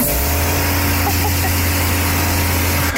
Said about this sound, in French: Ah, là c'est propre. Ah, ici c'est sale. C'est propre. Voilà, le Karcher, ça, c'est bien ça. Mais oui, tellement, ouais. C'est la chose la plus satisfaisante de la vie que tu puisses avoir en main.